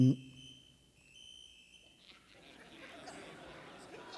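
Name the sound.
alarm bell ringing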